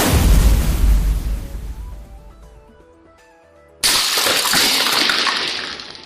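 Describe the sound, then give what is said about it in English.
A booming video-game fire cannon blast, launched from block 5, with deep rumble fades into a few bright electronic tones, then a sudden loud crashing burst of noise as blocks break carries on to the end. No voices. “The evil chocolate cookie launched fire cannon from block 5.”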